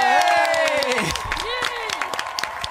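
An audience applauds with steady, dense clapping, while high cheers and whoops rise and slide in pitch above it throughout.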